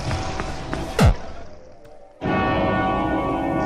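A sharp swooping hit is followed by a bright, sustained bell-like chime that rings out steadily and fairly loud over the game's background sound, with no one talking.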